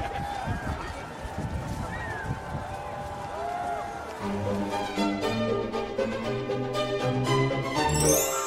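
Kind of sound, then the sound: crowd, crowd cheering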